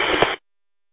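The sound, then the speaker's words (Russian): A brief, harsh burst of radio static with a garbled, muffled transmission over EchoLink buried in the hiss, with readability around 3 to 4, lasting under half a second before cutting off abruptly into silence. “Вот, ничего не разобрать, очень ужасно проходите, разборчивость где-то на 3-4.”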